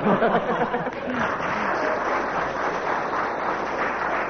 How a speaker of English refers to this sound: And a ripple of applause there, but only 1 mark.